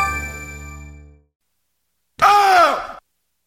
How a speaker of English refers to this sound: No music. Just the mummy screaming, signifying breaking news.